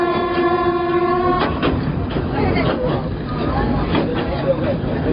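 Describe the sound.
A passenger train in Myanmar, carrying travellers with sacks, bags and pets, rolls north toward Mandalay along the rails with a steady, loud rumble and rattling clatter, opening with a sustained horn-like tone; a voice talks over the noise.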